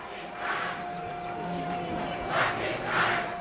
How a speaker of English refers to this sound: Soon we can hear the chants of Pakistanis in the stands on the other side of the border gates, mostly men with skullcaps and beards, assembled just 100 metres away.